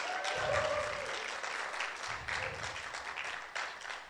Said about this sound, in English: And I think we ought to give our band another round of applause because I think they're absolutely brilliant.